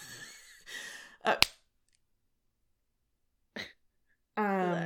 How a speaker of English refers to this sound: Oh, I gasp and giggle.